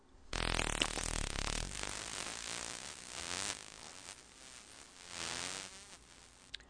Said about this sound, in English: In order to understand why this is an important discovery, let's have a quick review of what echolocation clicks are all about. Here is what dolphin echolocation sounds like.